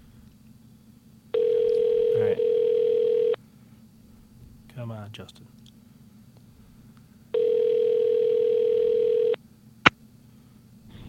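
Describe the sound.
Two long, steady phone ringing tones, each about two seconds, sound several seconds apart on an outgoing call, with a man muttering briefly between rings and a short click near the end.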